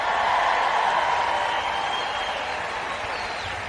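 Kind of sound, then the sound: crowd, audience cheering and applauding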